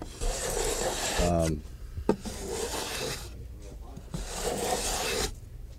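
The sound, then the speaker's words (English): A hand plane shaves wood in three long, rasping strokes with short pauses between them, the hiss of the blade steady across each pass. A brief voiced sound breaks in early on. “I love planes.”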